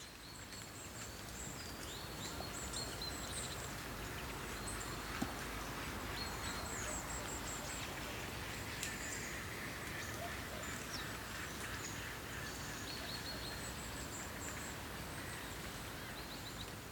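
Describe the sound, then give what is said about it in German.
A dense, steady chorus of migrating waterfowl calls carries over open water at Paarsteinsee lake in November, overlapping honks and quacks blending into a continuous wash with faint rustling beneath, no voices present. “November, Paarsteinsee, Vogelzug.”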